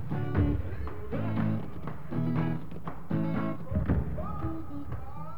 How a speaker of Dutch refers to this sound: Stampend met hun gumboots laten mensen in Zuid-Afrika horen hoe blij ze zijn of hoe boos. Ze gebruiken hun gumboots om hun stem te laten horen. Bijvoorbeeld om, net zoals Radio Freedom, te protesteren tegen de apartheid in Zuid-Afrika.